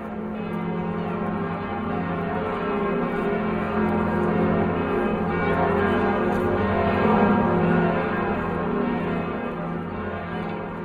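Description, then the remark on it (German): The bells of Notre Dame cathedral in France peal together in a continuous, dense wash of overlapping tones, loud and resonant throughout, with no voices. “Die Glocken von Notre Dame.”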